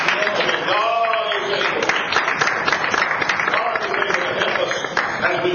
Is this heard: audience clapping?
yes